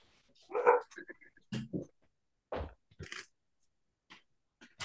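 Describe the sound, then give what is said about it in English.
A dog named Lucy barks in a few short, sharp, moderately loud bursts spread across a few seconds, with brief quiet gaps and some faint voice-like sounds between them. “Sorry, I let my dog.”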